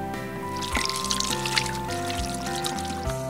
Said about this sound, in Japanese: そのまま泡をつけずに先に流水で手をしっかりと濡らしてください。 なるほど、泡をつける前にお水で流すことが大事なんですか。 そうなんです。まずは水で手についた菌をしっかりと流すことが大切です。 わかりました。じゃあまず先に水で手を流したいと思います。